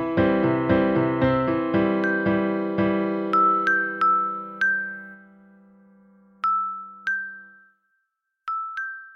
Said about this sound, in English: Was that bells he heard? He cocked his head, growing suddenly still. There it was again, a high, silvery bell sound. But where was it coming from?